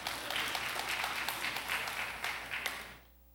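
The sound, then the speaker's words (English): A crowd applauds with dense, steady clapping for about three seconds, scattered sharper claps standing out, before the sound cuts off abruptly into near silence. “You don't have to clap.”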